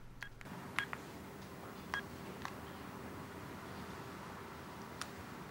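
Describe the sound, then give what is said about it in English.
A man sitting in his office dials a phone number on a telephone keypad: a handful of short touch-tone beeps spaced irregularly over a low steady hum, fairly quiet, with no talking. “After a few moments, he dials a number on the phone.”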